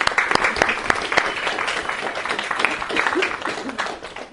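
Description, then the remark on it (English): A crowd applauds steadily, dense overlapping claps forming a continuous crackling wash, a few sharper individual claps standing out early on, staying fairly loud throughout with no voices. “Let's give these wonderful people a round of applause, shall we?”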